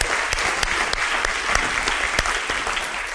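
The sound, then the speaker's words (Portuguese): A church audience claps steadily and loudly as applause for the Holy Spirit, a dense continuous patter of many hands with a few sharper individual claps standing out, and no voices heard. “Eu acho que dá para dar um aplauso mais forte ao Espírito Santo, né?”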